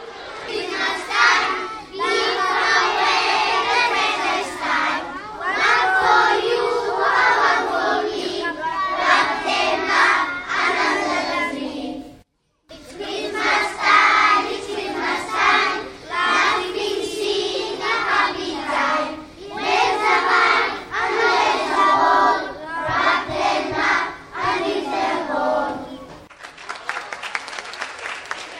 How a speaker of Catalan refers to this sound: Un fort aplaudiment!